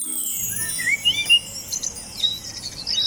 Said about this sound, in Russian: О, вот и птицы прилетели! Слышите, как поют? Да, весной многие из них возвращаются с зимовки.